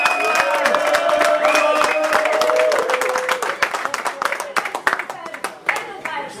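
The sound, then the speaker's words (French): At a strike, a crowd applauds a colleague with dense, steady clapping, mixed with raised voices and a sustained shout early on. The clapping then thins into scattered, uneven claps toward the end. “Elle se fait applaudir.”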